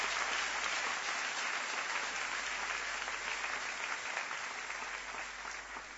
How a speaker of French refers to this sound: Est-ce que nous pouvons remercier le Seigneur qui nous a réveillés ce matin par les acclamations?